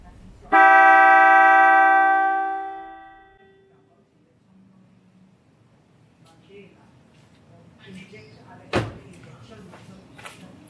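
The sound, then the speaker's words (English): A Mitsuba Dolce 3 car horn on a Nissan Terra, with its echo function switched on, sounds one loud, bright, sustained blast lasting about two seconds, then trails off in a smeared, lingering fade. Quieter rustling and a sharp click follow. “So the first one will be the regular, and then I'll flick the switch with the echo function, so you'll notice the difference.”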